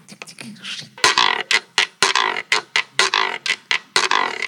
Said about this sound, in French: Alors, comment on prononce le nom de cet instrument ? Guiro. Guiro, voilà. Alors, est-ce que tu peux juste nous faire un petit...